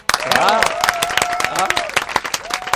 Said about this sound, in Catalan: Oh, mira, que bo! Oh, aplaudim! Bravo!